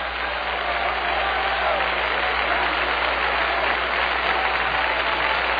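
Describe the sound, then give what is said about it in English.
An audience claps hands together in a dense, continuous wash of applause, steady and fairly loud for several seconds, with no voices standing out above it. “The Bible said, clap your hands, all you people, and make a joyful noise to the Lord.”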